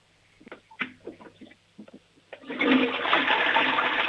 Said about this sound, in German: Oh, die Oma hat eine tolle Klospülung.